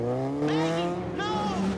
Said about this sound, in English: He turns back as he hears an approaching motorbike.